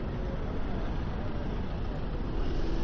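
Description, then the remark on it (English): A minibus with a school logo on it comes around along the road, its engine and tire noise forming a steady, broad roar that holds level and swells slightly toward the end. “Yeah, there's one coming around.”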